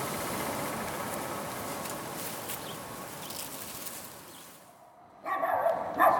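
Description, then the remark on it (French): A steady wash of outdoor background noise fades, then a dog barks near the end, a short, fairly loud burst standing out from the ambience. “J'entends un chien qui aboie.”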